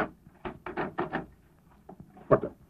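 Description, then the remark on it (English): A door is opened: a quick series of rattling clunks from the latch and handle, a brief pause, then a sharper knock as it swings free. No voices. “Open the door.”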